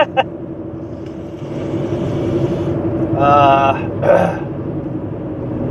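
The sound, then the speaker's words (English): Steady, low road rumble inside a moving car runs the whole time, with a couple of brief throaty coughing and wheezing sounds from someone in the cabin partway through. “Man, somebody was mowing their lawn, and I don't know if pollen got into the car and blew it into the cab here, but man, I'm just coughing and wheezing.”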